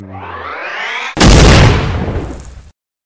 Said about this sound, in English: Explosion!